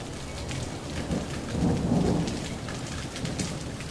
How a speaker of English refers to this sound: if you're seeing the lightning and then hearing the thunder before you get to five Mississippis, that means that storm is pretty close